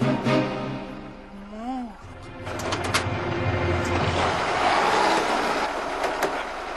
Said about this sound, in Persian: صدا ماشینه.